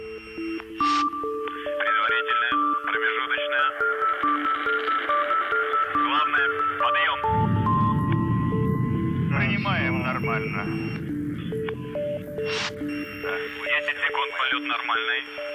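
An electronic dance track with stepping synth tones plays on BBC Radio 1 through a thin, radio-like signal, swamped midway by a loud rush of noisy interference before the melody carries on.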